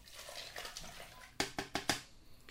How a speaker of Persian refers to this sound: خب یخها رو ریختم، عسلی که توی آب جوش حل کردم هم میریزم.